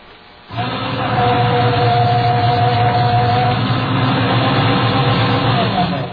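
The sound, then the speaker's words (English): A paper shredder starts up abruptly and runs with a steady, loud mechanical drone and grinding hum, continuing unchanged for several seconds with no talking. “Let's shred everything.”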